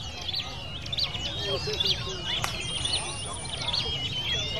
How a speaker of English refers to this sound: By 8 o'clock in the morning, when the birds are naturally slowing down and aren't singing so much anymore, they bundle the birds back up and make their way home again.